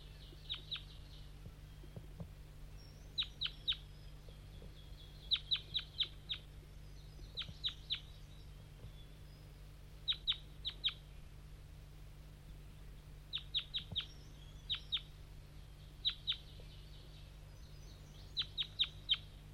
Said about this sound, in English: So recording, 5-3's lured in some wild birds, flying from the bottom of the hollow, through the fog. I don't hear them anymore.